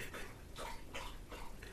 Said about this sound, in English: In the background is Buddy the dog, drinking water loudly, trying to sabotage me and express his anger for me not being in last week.